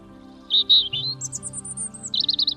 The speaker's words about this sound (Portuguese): Papo roibo, petirroxo, papo rubio, rubio, carrizo, pisco, pimentero, esla, peizoque, para nomear Oritacus rubécula. É sinxelo de coñecer pola súa plumaxe laranxa no papo. Moi territorial, anda polo chan dos xardíns buscando insectos.